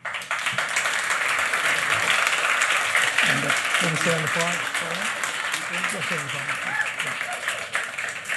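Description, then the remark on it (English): Sustained audience applause as NYU economics professor William Easterly is invited to the stage, a dense, steady wash of many hands clapping at an even loudness throughout, with a voice briefly talking over it partway through. “Okay, said the same applause, there's an applause, doesn't, no contest there.”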